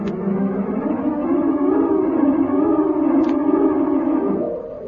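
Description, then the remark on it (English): A steady electronic calling buzz from a communicator, as Dantro signals Slats aboard the Alpha, drones on for about five seconds, a low, slightly wavering tone at even loudness, with a couple of faint clicks and no voices. “I'll give Slats the buzz.”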